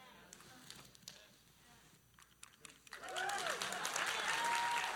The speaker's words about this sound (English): Thank you. I just wanted a little bigger applaud for that point, because I want you to get it.